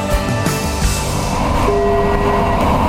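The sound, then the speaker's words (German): A train rolls into the terminal stop in Krefeld, where it ends its run, with a steady low rumble and rhythmic clatter of wheels, ending in a sustained metallic squeal of brakes as it slows to a stop. No one speaks. “Krefeld, Endhaltestelle, Terminal Stop. Dieser Zug endet hier. Bitte aussteigen.”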